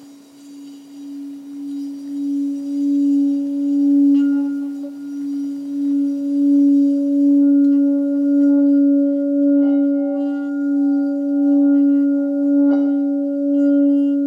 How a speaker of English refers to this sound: I'm now going to ring the gong 3 times, or not to ring it, but just to make it chime.